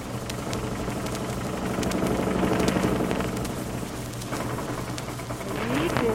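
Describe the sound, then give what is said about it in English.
A car motoring steadily along Highway 79: a continuous low engine drone with a rumbling hum and a broad hiss of road noise, holding an even level throughout with no voices. “we zip out to where Fibber and Molly are bowling along Highway 79, looking for a hotel in which to spend the night.”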